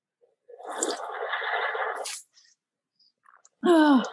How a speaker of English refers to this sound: So I know it's water, not coffee, because of time of day. But would you mind doing a... would you be able to do a very loud, obnoxious sip of your beverage?